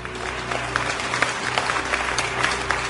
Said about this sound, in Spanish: Os aplausos soaban sinceros e entusiastas ante o recital ben entoado que semellaba inspirado por sentimentos verdadeiros.